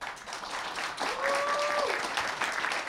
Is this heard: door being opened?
no